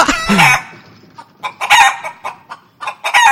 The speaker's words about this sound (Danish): En stor høne. Den fløj lige op foran mig. Jeg var lige ved at få den i hovedet.